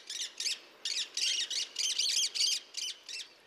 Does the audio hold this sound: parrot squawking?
yes